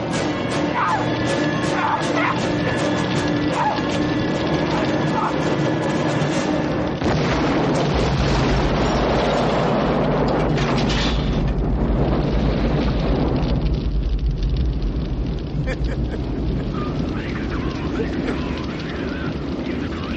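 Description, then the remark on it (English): A loud, booming movie explosion as General McAllister is blown up on the street erupts into a sustained low rumble and roar, layered over dense dramatic soundtrack noise and an aircraft-like drone. “So Riggs has to run all the way back to find Roger, who has just, killed General McAllister, who's blown up on the streets, like right in front of everybody.”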